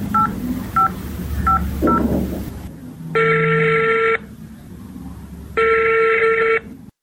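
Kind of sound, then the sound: signal or alarm, telephone number being dialed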